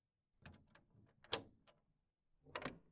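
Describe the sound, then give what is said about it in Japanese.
A door being opened: a few rattling handling sounds, a sharp latch click in the middle, then a final scrape and knock, over a steady high-pitched electronic whine. “今からドア開けるからさっさと入って。”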